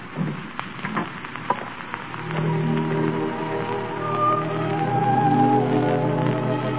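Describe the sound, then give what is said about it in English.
Heavy rain falls in a steady, dense hiss, with scattered louder drops early on, then a low sustained hum or musical tone swells beneath the downpour. No one speaks. “It's raining. It's raining awfully hard.”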